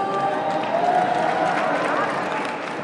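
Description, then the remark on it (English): Steady applause fills the whole stretch, a dense, even wash of clapping from a crowd with a murmur of voices mixed in, holding at a fairly constant level before easing slightly at the end. “We just heard some applause in the background.”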